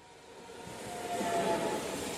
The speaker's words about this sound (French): Un train rapide.